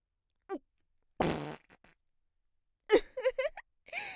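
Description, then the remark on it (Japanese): A woman farts deliberately while sticking her bottom out: several short farts in a quiet setting, a brief squeaky one, then a longer loud raspy blast, followed by a burst of sputtering, wet-sounding pops and a final short toot. “こんな美女の屁かけるなんて幸せでしょ。”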